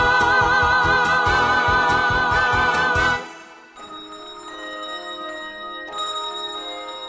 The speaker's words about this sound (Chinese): 钟声响，歌声起。